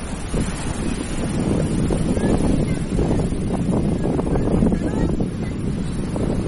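ocean waves and wind

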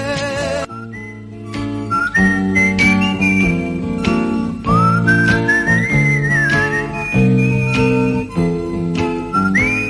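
whistled melody

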